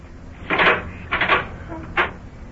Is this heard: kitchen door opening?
yes